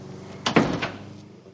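door opening and closing

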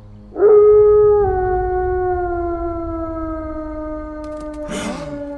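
wolf howling

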